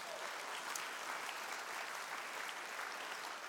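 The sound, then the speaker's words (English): Steady applause from an audience in a church auditorium, a dense wash of many hands clapping at a constant, fairly loud level for the full few seconds, with no one speaking over it. “You can clap for that.”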